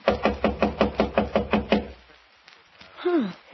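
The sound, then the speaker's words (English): Around nine quick, evenly spaced, firm knocks on an unlocked door, then a short pause and a brief vocal sound from someone. “Why don't you try the door? It was unlocked.”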